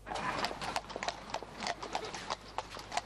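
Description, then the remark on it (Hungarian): Horse hooves clip-clop steadily on a hard surface at the OTP Bank equestrian World Cup in the Papp László Sports Arena, Budapest, a quick uneven rhythm of sharp knocks, clear, with a faint low background hum and no talking. “A lovak és a lovasok megérkeztek, a terep és a boxok készen állnak.”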